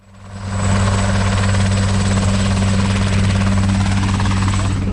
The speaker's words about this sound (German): Auf der total eingeschneiten Wiese vor dem Adelbodener Gemeindehaus starten und landen die Hubschrauber alle paar Minuten. Darunter auch Super Pumas mit Platz für je 17 Urlauber.